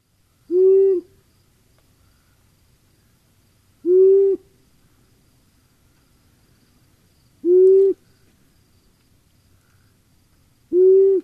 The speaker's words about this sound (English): The first one, maybe we should say, if you're trying to sort of reproduce the sound of an owl, this is the simplest one. At least that's what these instructors think. Like the simplest owl call on the planet, a male long-eared owl.